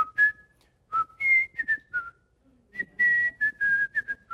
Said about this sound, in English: Yep, okay, I can whistle. What was that? Thank you, Bridge on the River Kwai.